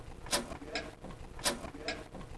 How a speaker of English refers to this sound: It is actually the first clock in the world to ever make a tick-tock sound, we believe, because it has something called an anchor escapement, which is a very complex way of saying essentially it makes that tick-tock sound.